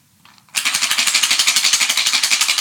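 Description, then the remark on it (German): Four dice shaken hard in a Totoro container for the children's dice game Hühnerspiel, a loud, steady rattling clatter with a fast, even rhythm that starts abruptly after a brief quiet moment and continues without pause. “Und jetzt musst du einmal ganz kräftig schütteln.”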